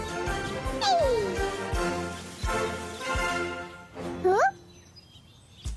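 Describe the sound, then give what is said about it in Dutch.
Chickens laying eggs cluck and squawk over a bouncy musical backing, with one sliding, descending squawk early on and a rising, wavering squawk near the end. “Dank jullie wel, kippen, zegt Jopie.”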